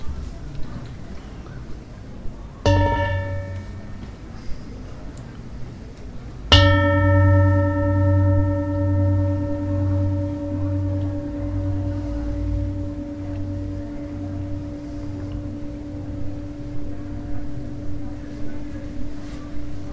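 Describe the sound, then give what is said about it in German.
A bell is struck twice: a brief first tone, then a louder strike whose bright, layered ringing hums on and slowly fades over a low steady rumble. No one speaks. “Und vor der dritten Stufe hören wir noch meine Glocke.”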